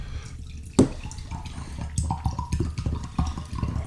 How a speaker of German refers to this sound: Ich schenke uns mal ein bisschen Stilles ein. Oder möchtest du noch kein Wasser? Doch, stilles Wasser ist super.